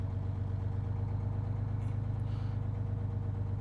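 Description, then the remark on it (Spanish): A bus bound for the mausoleum idles steadily as passengers are asked to board, a continuous deep rumbling drone with an even, unchanging level throughout and no voices. “Les pido a todos que por favor suban al autobús.”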